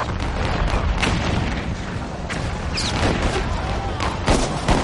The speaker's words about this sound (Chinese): 这一炮是开战的信号，查尔斯顿港口周围的所有南方邦联炮舰纷纷投入战斗，炮弹好像雨点一样飞向萨姆特堡。隆隆的炮声惊醒了查尔斯顿睡梦中的居民，他们飞奔到港口，看着呼啸的炮弹划破夜空，欢呼雀跃。